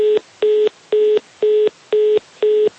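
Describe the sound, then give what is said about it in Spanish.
A phone line's busy tone after a dropped call with guests: six evenly spaced beeps of one steady pitch, each about a quarter second with equal gaps, loud, with no voices. “Se cierra la clavija cuando se cuelga el teléfono, ¿no? Sí, ya, perdimos la llamada a nuestros invitados.”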